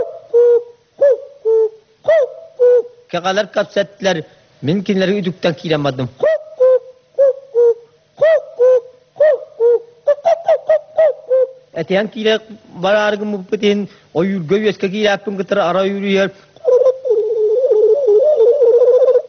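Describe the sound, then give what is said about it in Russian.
A man's voice sings a Yakut hunter's song imitating bird calls, mixing short repeated hoots and coos with longer warbling, throat-sung phrases, fairly loud, ending in a sustained droning tone. “А вот еще образец якутского пения – песня охотника, подражание голосам птиц.”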